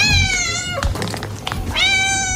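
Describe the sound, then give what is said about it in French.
A cat in a studio meows loudly, two long, drawn-out cries with a brief rustling, breathy noise between them. No one speaks. “Sortez-moi le chat du studio là”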